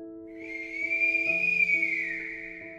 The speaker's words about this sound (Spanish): Pero de repente, escuchó algo diferente. He heard something different. Era un silbido largo y alto, como de una flauta. Venía de lejos.